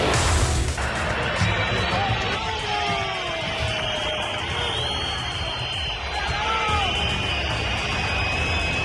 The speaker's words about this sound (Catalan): Xiulets, crits de Florentino a dimissió